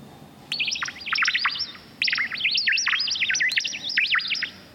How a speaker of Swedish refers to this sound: Så ska vi till sjukvården i Ängelholm, där det inte låter som vanligt. Här är de syntetiska fåglarna. Som blir glada när man kommer.